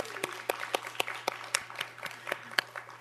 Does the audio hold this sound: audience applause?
yes